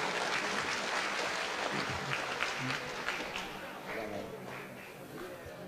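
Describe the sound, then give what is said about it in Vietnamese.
An audience at a university question-and-answer session claps steadily in support of a student who asked a question, a dense, sustained wash of applause that stays strong throughout and tapers only slightly near the end. “Vậy đề nghị chúng ta cho một tràng pháo tay ủng hộ cho bạn ấy.”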